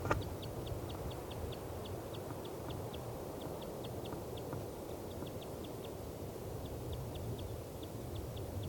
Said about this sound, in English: Nanny-5's flight call. That's the female. This is her again.